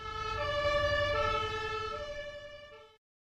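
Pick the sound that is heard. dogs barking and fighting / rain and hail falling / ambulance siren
ambulance siren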